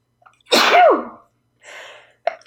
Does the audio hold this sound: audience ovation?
no